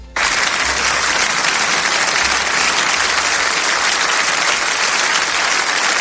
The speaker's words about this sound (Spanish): Pues seguramente va a ser el mismo sonido de aplausos que se va a escuchar esta tarde en nuestro país en cuanto acabe de hablar Zelensky.